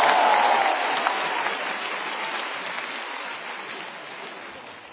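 Steady audience applause welcoming He Yunwei and Li Jing to perform the xiangsheng crosstalk piece 'Wai Pi Bai Jia Xing', a dense wash of many hands clapping that starts strong and slowly tapers off over a few seconds, with no voices over it.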